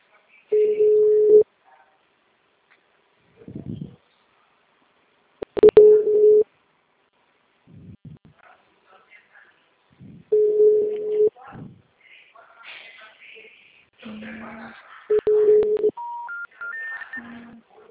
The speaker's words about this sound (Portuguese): O telefone encontre ocupado. Por favor, tente mais tarde. O número está ocupado.